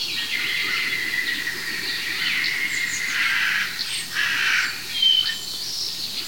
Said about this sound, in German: Das ist eine echte Krähe.